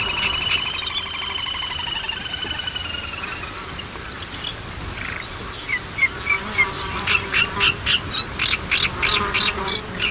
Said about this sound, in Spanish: Y sobre todo ese zumbido como un poco desquiciante, que son los insectos, los mosquitos.